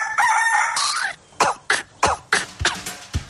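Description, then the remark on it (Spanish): A rooster crows loudly for about a second, followed by a quick run of short, sharp bursts like coughs or clucks at a steady, uneven rhythm. No talking. “mañanas manda el gallo.”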